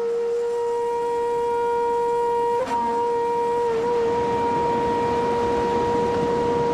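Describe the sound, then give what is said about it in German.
A distant, steady, brassy tone like an overblown bass trombone drones from far away over the water, without a break, rich in harmonics, with a slight waver near the middle and a faint rushing noise beneath. No one speaks. “Da strich ein leises Säuseln über die Wasser und aus weiter Ferne her ließ sich ein Ton vernehmen, ähnlich dem einer überblasenen Bassposaune.”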